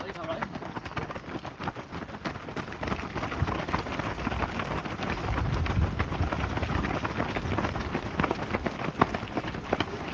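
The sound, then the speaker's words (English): A dense, continuous patter of the footsteps of many runners in a road race who have just set off, pounding past a marshal, loud and steady for the whole stretch, with indistinct voices mixed in the background. “And they have set off, and I'll get some footage of them thundering past.”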